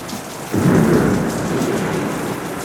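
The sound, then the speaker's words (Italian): Steady rain hisses throughout while a deep roll of thunder swells in around half a second and rumbles on, loud, with no voices. “Sta già tuonando? Sta piovendo?”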